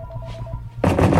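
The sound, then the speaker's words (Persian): A landline telephone bursts into a loud, rattling bell ring, cutting in abruptly after a faint steady hum and continuing in rapid pulses. “اون یه خط تلفن ثابت داره.”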